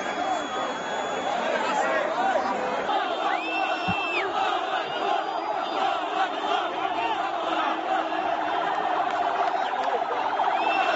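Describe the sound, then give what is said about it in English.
A dense, loud crowd shouts and chatters throughout, while a Red Cross ambulance siren rises and wails briefly twice, partly buried beneath the noise of the crowd. “Oh, we have a Red Cross.”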